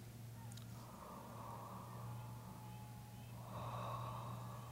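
Slow, deep airy breaths drawn in and pushed out through an open, O-shaped mouth during a breathing meditation, two long whooshing cycles over a steady low humming drone, moderately loud.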